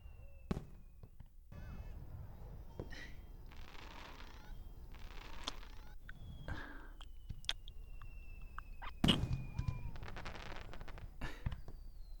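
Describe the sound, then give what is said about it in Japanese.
Fireworks go off one after another, with whistling launches and crackling, booming bursts echoing, a busy irregular barrage with a sharp louder pop near the end. “花火見ないの？どんどん打ち上がってるよ。”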